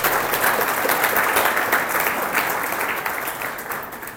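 A church audience applauds for Jesus steadily, dense clapping from many hands, loud and sustained before gradually thinning toward the end.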